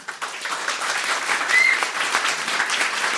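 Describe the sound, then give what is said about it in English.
A crowd applauds steadily for about three seconds, dense overlapping claps forming a broad, sustained roar with a brief whoop rising above it midway. “Big round of applause”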